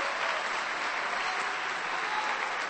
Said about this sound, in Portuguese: Dê um aplauso para Jesus, em nome do Senhor. Glória a Deus.